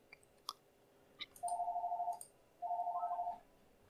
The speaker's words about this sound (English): I'm going to ignore the ringing phone. Because it stopped because it was probably a spam caller.